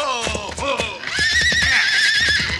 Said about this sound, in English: Head off that horse